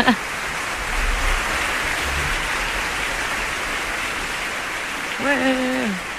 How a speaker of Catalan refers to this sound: Mira, estem aplaudint.